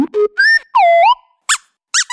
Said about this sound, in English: you're covered in really squeaky dog toys.